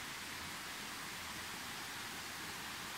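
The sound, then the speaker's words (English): A steady, unbroken rush of running water from a stream fills the scene, a soft continuous hiss like water flowing over stones, with no voices and no breaks. “There's the stream over there.”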